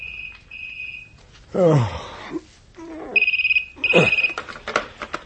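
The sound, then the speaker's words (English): A telephone rings at 2 a.m. with a bright, trilling bell in two bursts separated by a pause, fairly loud, with brief muffled vocal sounds in between. “The 2 a.m. phone call confirmed my misgivings.”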